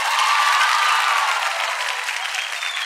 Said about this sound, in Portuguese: cadê os aplausos do rapaz?